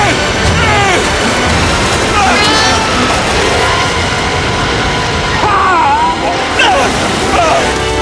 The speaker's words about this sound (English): White water nears.